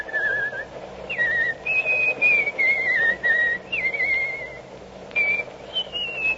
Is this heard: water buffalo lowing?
no